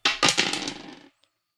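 Dice are rolled across a hard tabletop during a game, a few quick bouncing knocks followed by a short rattling roll that settles after about a second on a 10, with one faint final tick. Fairly loud, no voices.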